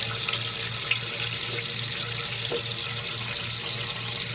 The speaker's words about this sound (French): Bon, je peux laver ma casserole avant. Tu peux laver la casserole, tu peux la rincer à l'eau, quoi, histoire d'enlever tous les petits débris qui se sont mis, voilà. Je la rince. Tu peux la rincer à l'eau.